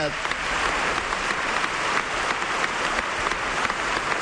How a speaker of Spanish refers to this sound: El Carpena continuamente rompiendo en aplausos con cada palabra de Rafa.